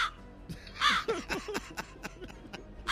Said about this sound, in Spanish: Un cuervo graznaba alrededor de su cama.